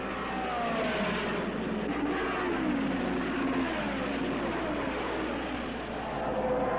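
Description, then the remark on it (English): Race car engines roar steadily at full speed, their whining pitch sliding up and down as cars sweep past, over a dense, muffled rumble of track noise, as Unser leads and Leonard passes Ruby on the fourth turn. No voices. “Leonard moves in on Ruby in the short chute, passes him on the fourth turn, and takes off after Unser.”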